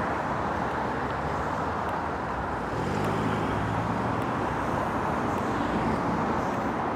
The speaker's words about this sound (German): Oh Scheiße, kann man hier überhaupt rüber? Ja, müssen wir. Warum nicht? Naja, weil hier immer Autos kommen. Also es ist trotzdem eine Straße.